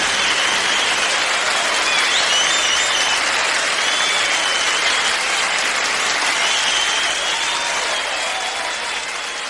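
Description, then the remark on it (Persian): A crowd bursts into steady, sustained applause for a guest's kind wish, loud and dense throughout, with a continuous wash of many hands clapping and no talking over it. “زنده باشیم، انشالله که همینطور بشه و یه تشویقم به خاطر آرزوی قشنگتون در نظر میگیریم که بره والا صدا بردار عزیزمون.”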